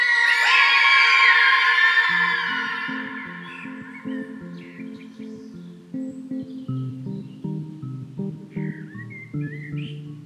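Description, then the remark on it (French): A group of children shout loudly together for about two seconds, then the noise falls away into a steady rhythmic tune with regular low thumps of everyone stamping their feet. “Tout le monde tape des pieds. Dans mon château, il y a un robot qui mange du fer, qui boit de l'eau. Et quand ils se mettent à crier, tous les enfants se mettent.”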